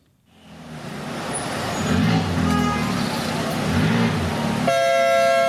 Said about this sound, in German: Istanbul im Feierabendverkehr. Zwischen Autos, Busse und Mopeds passt an manchen Tagen kein Blatt. Und wenn der Verkehr fließt, dann oft so rasant, dass Dellen und Kratzer an der Tagesordnung sind.